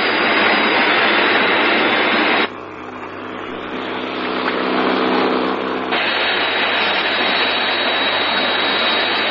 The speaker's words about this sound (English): A jet-powered sea rescue hydrofoil speeds toward the crash area to join in the search.